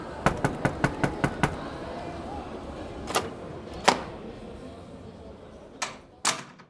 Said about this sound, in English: Anybody in here? I tried knocking.